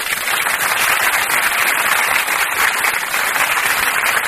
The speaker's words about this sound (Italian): Allora, okay, l'oscuro alla regia, colui che ci permette di parlare, di dire queste cose. Facciamogli fare anche un bellissimo applauso. Ma sì, dai.